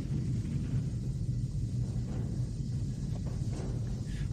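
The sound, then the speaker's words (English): A deep, continuous rumble of thunder rolls on steadily throughout during a torrential rainstorm with lightning flashes, heavy in the low end with a faint hiss above it and no voices. “Lightning flashes outside, pulling his attention out the window.”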